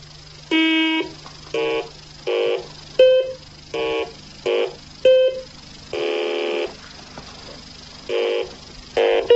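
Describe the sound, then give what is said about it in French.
A series of about a dozen short electronic beeps from a toy car's programming keypad, a small computer for programming the car's route, uneven in spacing, with a few longer tones and a steady low hum underneath. “Effectivement, c'est un petit ordinateur qui permet vraisemblablement de programmer le parcours de cette voiture.”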